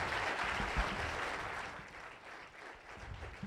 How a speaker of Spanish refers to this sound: Dale un aplauso a Dios. Let's give the Lord a hand. Hallelujah.